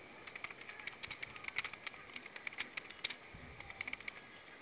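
Someone presses buttons on an alarm keypad to check that it works, in a quick, uneven series of small clicks and taps, fairly faint with a low background hiss and no talking.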